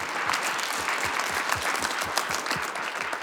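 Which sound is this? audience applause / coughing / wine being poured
audience applause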